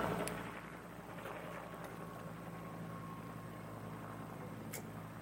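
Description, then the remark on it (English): A helicopter passes by, droning steadily with a low, rumbling engine hum in layered tones that holds for several seconds with no talking over it, plus a couple of faint clicks. “Now, let me take a quick sip of water as our friendly helicopter passes by here to let the noise go.”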